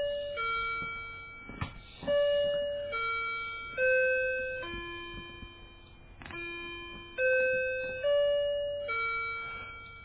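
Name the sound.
clock chiming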